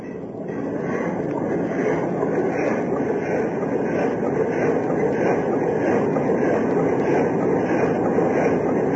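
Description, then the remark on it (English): A ship's steam engine churns at full steam astern as the ship closes on ice ahead, a loud, steady mechanical rumble with a fast, even rhythmic pulsing running throughout, no voices. “We'll try the engine. Ready, Chief? Yes, sir. Full steam astern.”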